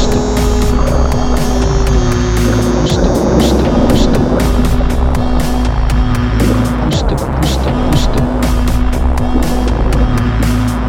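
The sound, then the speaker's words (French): The engine of the Calypso, Commander Cousteau's underwater research ship, drones loudly and steadily, with a deep hum running throughout and frequent sharp clanks and knocks layered on top, continuous for the whole stretch. “Ces hommes, ce sont les plongeurs de la Calypso, le navire de recherche sous-marine du commandant Cousteau.”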